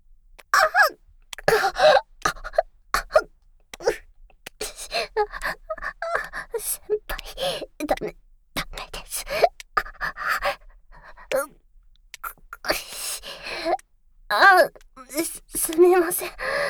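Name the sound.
coughing fit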